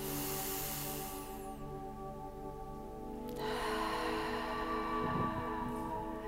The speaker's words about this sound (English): And then start taking a deep belly breath. And another one.